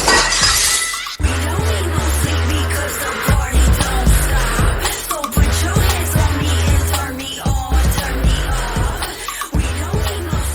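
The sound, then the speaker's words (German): A window pane struck by a pitched throw shatters with a sharp crash, followed by a long run of glass fragments tinkling and clattering down in dense, bright bursts over several seconds, with a steady low rumble underneath. “Alter, du hast dir die Scheibe im Arsch gemacht.”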